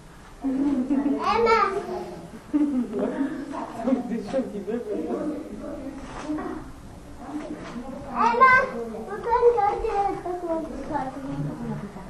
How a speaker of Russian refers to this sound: Дети.